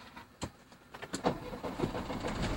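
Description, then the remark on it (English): A car engine starts: a few sharp clicks and clunks, then the motor catches and settles into a steady low rumble that continues to the end. The car is in the UC parking lot at Drew University and is about to pull out of its space for a drive around the campus. “So now we are pulling out of the space that we're in.”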